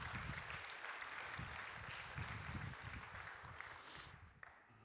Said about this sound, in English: Yes, clap, celebrate.